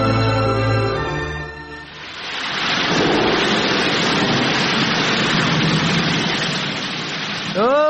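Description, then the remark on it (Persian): A brief tonal hum gives way to a loud, continuous roar of rushing flood water, a dense, steady wash of noise that swells in and holds for several seconds. “رالا بخی که سیل اومد.”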